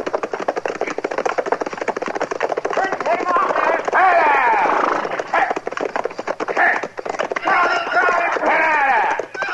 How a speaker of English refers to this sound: Well, somebody's sure riding up front seat awful fast, ain't they? Yeah. That's a runaway horse, Chester. Come on, let's catch him.